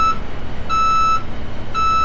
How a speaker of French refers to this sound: bruit d'un camion.